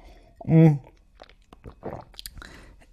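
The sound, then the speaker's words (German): A sip of green tea that has cooled down: a short voiced hum, then wet slurping and swallowing noises with small mouth clicks, fairly quiet, with no talking. “Aber vorher muss ich nochmal einen Schluck trinken.”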